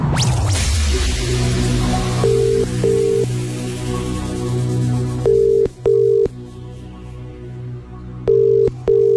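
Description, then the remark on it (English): A phone call is dialed and then rings out before being forwarded to voicemail, with steady paired ringing tones repeating over a low electrical hum and faint line noise; no one speaks. “Yeah, we've been forwarded to voicemail.”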